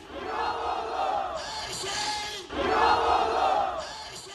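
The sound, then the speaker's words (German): A large crowd in Istanbul roars and cheers İmamoğlu's win in the repeated election, two sustained surging waves, loud and dense with shouting voices, the second swell rising even louder than the first. “Diesmal akzeptierte Erdogan und der Jubel war groß.”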